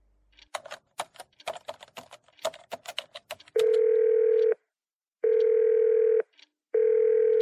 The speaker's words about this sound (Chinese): 单位电话占线，文秋一阵烦躁，只得扣下